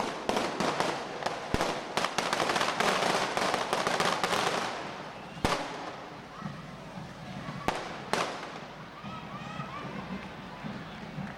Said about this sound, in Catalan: Molta gent jove ballant els diables aquí, saltant, sota el foc de les carretilles. I magnífic l'espectacle, davant de la catedral, al Vall de Diables, de nit.